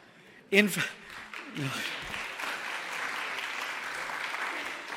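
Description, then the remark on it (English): A room full of people breaks into sustained applause after a joke about why the chicken crossed the road, a dense wash of clapping that swells quickly and holds steady, with a brief vocal exclamation near the start. “Great, I'm dishing out deep theology, and the applause comes at the cheap jokes.”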